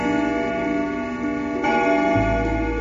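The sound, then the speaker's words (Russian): An antique clock in an office chimes loudly, its ringing tones overlapping and sustaining, with a fresh strike partway through and a deep resonant hum underneath. No one speaks. “Именно в этот момент забили старинные часы в офисе «Серебряного дождя».”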